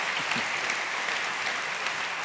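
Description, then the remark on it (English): Steady, dense applause from an audience, many hands clapping at once in a continuous crackling wash with no clear individual beats, holding an even loudness throughout. “And when they say that, just clap more whenever they say that.”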